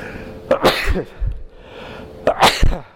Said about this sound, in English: Excuse me, my nose is tickling here. I'm going to sneeze.